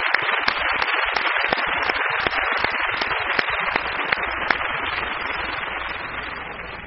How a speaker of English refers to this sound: I'd like to have you give them a warm round of applause for all of their work today.